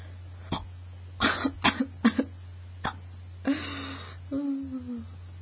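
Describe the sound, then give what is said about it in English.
A person chokes on a hiccup and breaks into a short fit of sharp coughs, followed by a strained, throaty gasp and a brief moaning sound, over a steady low hum. “Choked on a hiccup.”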